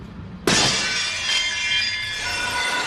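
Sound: glass shattering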